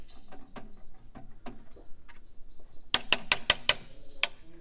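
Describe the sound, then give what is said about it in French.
Bright metallic taps from a small piano-like instrument, like a piano crossed with a xylophone, struck with thimbles on metal bars: a few scattered clicks, then a quick run of five sharp strikes and one last tap, clear. “Donc là, il y a des dés à coudre et il y a un piano avec des barres de métal, c'est ça?”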